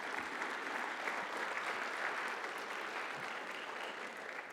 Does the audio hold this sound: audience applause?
yes